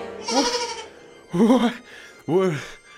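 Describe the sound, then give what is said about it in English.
A goat bleats three times in close succession, each call a loud, wavering, nasal cry with a short pause between, the last one rising sharply. “Are you about to sacrifice that goat?”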